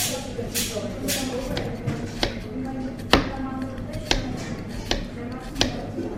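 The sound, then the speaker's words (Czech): A knife chops onion finely for goulash on a cutting board, with about a dozen sharp, uneven taps and some louder strikes, over a low background murmur. “Krajíme si cibulku najemno na ten gulášek.”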